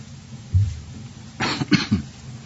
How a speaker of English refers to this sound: If we ever get rid of winter, maybe I'll get rid of this cough.